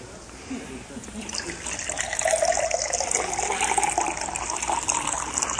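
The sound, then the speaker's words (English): Water pours steadily into a glass, a continuous gushing splash that builds in the first couple of seconds and then holds, with a rising tone as the vessel fills. “Now, I'm not going to fill it to overflowing because I don't want to make a mess.”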